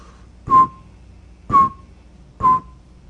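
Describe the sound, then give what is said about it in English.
A person whistles an imitation of a northern saw-whet owl: three short, mid-pitched toots, evenly spaced about a second apart, each with a breathy onset, with no talking. “So if you are out and about in the wild Clearwater country in the evening this time of year, you could hear the northern saw-whet.”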